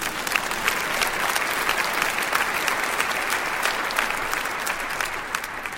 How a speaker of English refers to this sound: He's a redeeming God. I think you ought to clap there if you're awake.